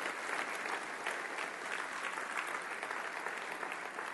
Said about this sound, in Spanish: Un aplauso a su Dios en este día.